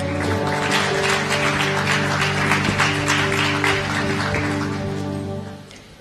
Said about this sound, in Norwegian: Vi gir sanger og musikere en applaus.